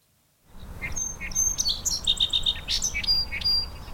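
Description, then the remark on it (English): Outdoor marsh ambience at a bird overlook in the Dead Creek Wildlife Preserve, Vermont, with many birds chirping and calling, a rapid repeated high trill standing out among scattered tweets over a low, steady background rumble. No one speaks. “Standing on this bird overlook over a marshy area in the Dead Creek Wildlife Preserve.”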